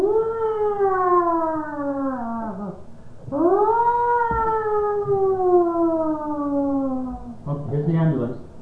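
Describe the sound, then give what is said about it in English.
A voice imitates an ambulance siren with two long, loud, downward-gliding wails, followed by a brief burst of other vocal noise at the end. “Here comes the ambulance.”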